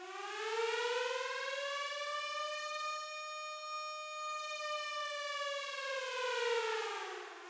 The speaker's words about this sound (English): Joe headed downstairs, just in time to hear the curfew siren sound.